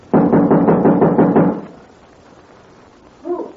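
A quick, steady burst of about eight loud knocks on the door of a girl's room, lasting under two seconds, followed by quiet and a short tonal sound near the end.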